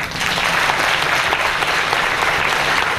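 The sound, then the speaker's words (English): A crowd in a room bursts into steady, loud applause in answer to a speaker's question whether they still love their parents, a dense wash of clapping that holds at an even level for about three seconds without pause. “By applause, how many of you still love your parents?”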